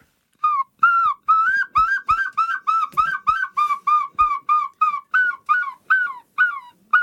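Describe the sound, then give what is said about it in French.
A man whistles a long run of loud, slurred notes imitating a herring gull's call, about two per second with brief gaps, and no talking. “là, j'ai sifflé pour imiter le goéland argenté”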